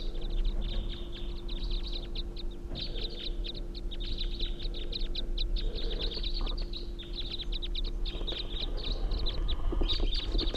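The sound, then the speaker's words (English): A flock of five birds, which flew over a truck, calls continuously, many overlapping high chirps and short notes layered over one another, steady, with a low constant hum underneath and no voices. “Sounds like a whole flock now.”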